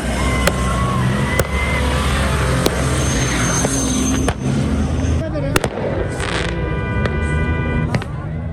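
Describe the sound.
Sharp firework bangs crack out irregularly, about eight of them, at a nighttime fireworks and bonfire celebration in a sandy desert in Afghanistan, over a constant roar of an all-male crowd of spectators and engine rumble, with a whistling, crackling burst late on and murmuring voices throughout.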